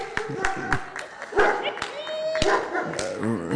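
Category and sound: animal, dog barking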